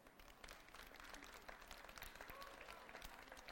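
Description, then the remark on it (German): A crowd applauds steadily, a dense wash of many hands clapping at once, with no pauses for the whole stretch. “Applaus.”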